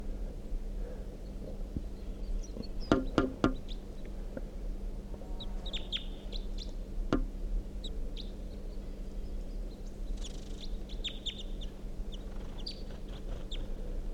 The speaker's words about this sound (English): There's a wild male crossbill here, singing from that dead tree next to the net site.